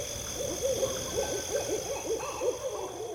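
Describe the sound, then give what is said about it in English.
An owl hoots in dark woods in a quick, repeated series of wavering calls, while a steady high insect drone hums in the background of a quiet night. “I would walk through the dark woods with the sounds of frogs, crickets, and owls around me.”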